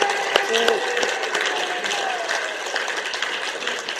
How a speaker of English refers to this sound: Why don't we give Jesus a clap? Yes.